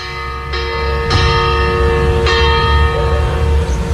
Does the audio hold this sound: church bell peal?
yes